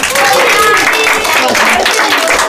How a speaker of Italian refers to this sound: Siete stati grandissimi, fatevi un grande applauso a voi.